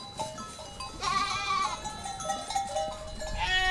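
Several goats bleat in overlapping, wavering calls that swell after a brief quieter start and carry on steadily, with no one talking.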